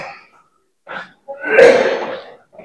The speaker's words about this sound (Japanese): あの、100段です。湧き水を飲んで一休みしてくださいと。 あれ、飲めんの？ほんまに？もう息切れますよ。